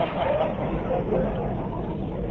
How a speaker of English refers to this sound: Need a little water here. You hear that pump? That means no liquors in here. I just opened.